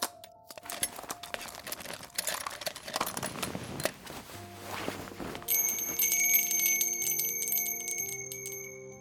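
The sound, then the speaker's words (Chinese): A small bell jingles and rattles in quick, bright shakes, then settles into a clear, sustained ringing tone with crisp high overtones, fairly loud, with no voices. “瞧瞧这清脆的铃声，真是悦耳极了，喜欢吗？”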